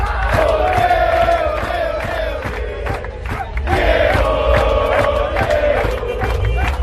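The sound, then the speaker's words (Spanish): A large crowd shouts a rhythmic chant in unison in tribute to footballer Diego Armando Maradona, loud and sustained, with repeated sung phrases rising and falling and a steady beat of claps or drums underneath. “Pues el mejor 10 del fútbol argentino no solamente está siendo recordado en su Argentina querida, sino en el mundo entero con este grito.”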